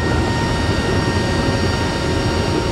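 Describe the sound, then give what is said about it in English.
A loud, steady roar of engines and rushing wind inside a cargo plane with its giant rear doors below the tail open, dense and unbroken, with a faint high whine running through it. “And it gets even louder when the doors open.”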